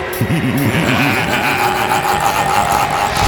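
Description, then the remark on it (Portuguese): A loud, steady engine of a Triton truck rumbles throughout, with a wavering low drone that rises and falls in quick repeated swells early on before settling into a constant roar. “Se com as gêmeas ninguém tocava, agora com o caminhão vai ser impossível.”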